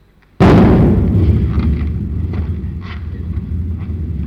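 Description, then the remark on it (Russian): A single loud cannon shot fired as a salute, from silence, its sharp boom giving way to a deep rolling rumble that echoes on for several seconds. No one speaks. “Это, вероятно, какой-нибудь купец-самодур слезает со своей баржи, так в честь его салютирует.”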